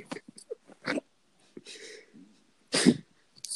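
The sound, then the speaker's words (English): A short, raspy fart sound, followed moments later by a louder, blustery burst, with a few brief puffs and snorts around them and no talking. “Did you just fart?”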